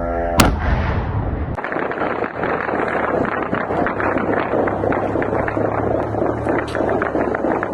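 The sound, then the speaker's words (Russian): Sustained, rapid gunfire crackles continuously over a low droning rumble, opening with a sharp loud bang, with repeated bursts of shots and no voices, as kamikaze drones are shot at over the Ukrainian capital. “Давайте посмотрим, как происходило сегодня сбитие и не сбитие, к сожалению, этих дронов камикадзе в украинской столице.”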